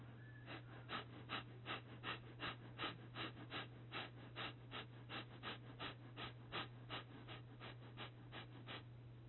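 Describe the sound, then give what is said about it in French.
Rapid, forceful abdominal breaths pushed out through the nose with the head held in line with the body, in a steady, quick rhythm of about two per second. The breathing is fairly quiet over a constant low hum, with no talking. “Respiration abdominale rapide avec la tête dans l'axe du corps.”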